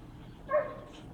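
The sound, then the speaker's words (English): A dog lets out one short, high bark, fairly soft, standing alone against quiet background noise with no talking. “The dog is so loud.”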